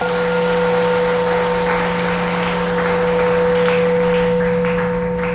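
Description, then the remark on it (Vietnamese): A crowd applauds loudly and steadily, a dense wash of clapping hands without pause, with a constant electrical hum running underneath. “Nếu các bạn đồng ý với lời đề nghị này thì cho một tràng pháo tay thật lớn.”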